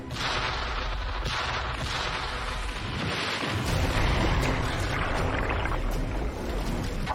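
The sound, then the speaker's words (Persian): Three torpedoes set to a depth of 10 metres being fired at once amid a loud, dense roar of rushing water and mechanical thumps, with several sharp bursts layered over a constant heavy rumble, no voices. “اطاعت قربان، اژدر آماده، همشون رو شلیک کن.”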